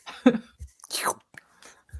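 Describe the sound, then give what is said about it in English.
Someone slurps a drink: a few short, wet mouth sounds, then one longer airy slurp that sweeps downward in pitch, followed by faint sips and a low thump, with no talking. “One of us is slurping the air.”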